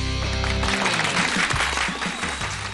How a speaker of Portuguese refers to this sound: Opa, adorei esses aplausos, hein?